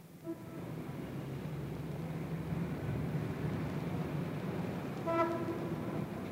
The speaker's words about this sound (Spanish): En aquel momento pasó un tranvía repleto de gusanos. ¡Caramba! Tienen hasta tranvías.